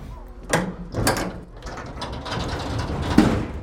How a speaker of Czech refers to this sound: Tak, posaďte. Připoutejte. Studenti se teď zkouší i simulátor nárazu.